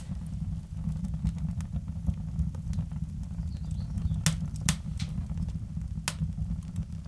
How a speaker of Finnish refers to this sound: Tuossa tapahtuu nyt sellainen juttu, että noin pienet tikut syttyy päällä, sitten kun ne palaa enemmän, ne tippuu tuonne väleihin ja sytyttää nämä isommat puut.